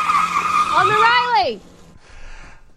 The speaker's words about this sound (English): Right now, you can see the Alderman – wait, that's a car, Alderman.